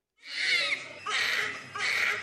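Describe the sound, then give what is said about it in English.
A newborn baby cries in a delivery room in three loud, strained wails, each a high, raspy burst with a brief catch of breath between them. No other voices are heard. “In the delivery room, this is the sound you want to hear. It means a baby can breathe.”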